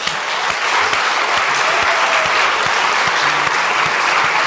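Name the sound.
audience applause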